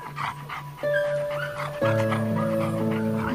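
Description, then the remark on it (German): Soft whimpers and little yips from a golden retriever mother and her puppies as a man kneels beside them and strokes them, layered over steady sustained musical tones that swell halfway through. “Währenddessen kniet er sich zu der Goldie-Mama und ihren Welpen und streichelt sie gedankenverloren.”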